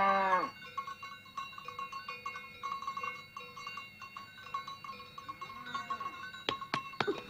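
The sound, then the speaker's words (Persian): Cows with cowbells being herded out to graze: many bells clank and ring in an overlapping, irregular jangle over a low shuffling rumble, with a few sharper knocks near the end. “خب اگه همه گاوه رو ببرم نمیتونیم به دنی و عمه کلوت شیر بدیم، میتونیم؟”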